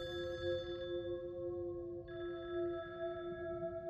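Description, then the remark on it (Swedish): A telephone rings with a steady, sustained electronic tone that holds for several seconds over a faint background hiss, with no voices. The police are calling Tony's mother at home in Skärholmen to tell her that Tony is dead. “När polisen ringer och meddelar att Tony är död.”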